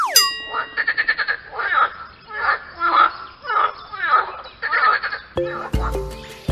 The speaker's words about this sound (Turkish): Bildiniz değil mi? Bu canlının adı kurbağa.